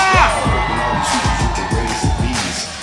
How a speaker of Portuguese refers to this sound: Cadê o grito da galera de Madureira?